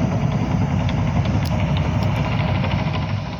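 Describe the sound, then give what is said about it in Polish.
Heavy diesel engines of articulated dump trucks rumble steadily and loudly, a continuous low droning throb with no pauses, as the trucks work on a construction site. “Te maszyny, które pani widzi, czyli woziła przygubowe, pracujące w tym momencie na budowę, są przystosowane do takiej pracy, żeby w przypadku przeciążenia skrzyni ładunkowej, skrzynia ładunkowa przewróciła się na bok”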